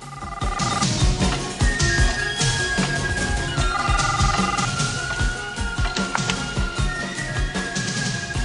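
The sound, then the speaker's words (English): A telephone in the lounge of a villa rings in repeated electronic bursts, partly buried beneath loud, busy dramatic music with a steady pulsing beat; no one speaks. “In Arias's villa, the phone in the lounge rings.”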